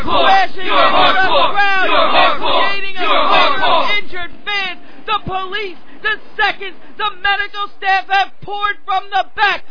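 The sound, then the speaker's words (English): A wrestling event crowd roars and screams loudly for several seconds after a ladder tips over in a title match and a wrestler falls into the crowd, then the uproar breaks into scattered individual shouts and yelps, with bursts of excited voices rising and falling. “Screaming, and I'm shocked.”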